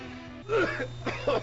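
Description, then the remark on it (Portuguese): A person coughs and clears their throat, a few rough, raspy bursts spread over a second or so, with a steady low hum underneath. “Interrompemos esta tosse para um comunicado importante sobre a tuberculose.”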